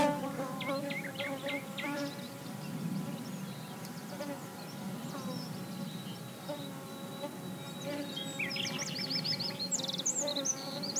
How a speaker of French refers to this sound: Il y a plein de mouches par ici.